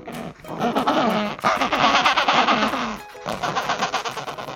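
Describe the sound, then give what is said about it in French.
An Adélie penguin calls with loud, harsh, raspy braying made of rapid pulsing notes. It breaks off briefly near the end, then starts again. No one speaks. “le cri que tu as entendu, c'est celui du manchot d'Adélie”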